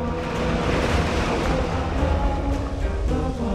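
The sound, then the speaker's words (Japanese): Ocean surf washes in with a steady, full rushing roar, holding loud for a few seconds with no voices over it. “波が来た。”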